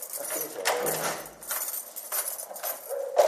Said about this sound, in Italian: Oggi queste persone vivono in una casa chiusa da reticolati e cancelli nel verde che si apre sui vigneti del Mendrisiotto. Tric trac di chiavi, passi che risuonano nei corridoi.